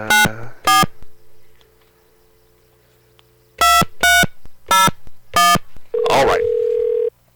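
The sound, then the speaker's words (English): A telephone number is dialed with touch tones: two short beeps, a pause over a low steady hum, then five more quick beeps, ending in a longer, steadier tone with a burst of noise. “Okay, here's a number. Let's try this.”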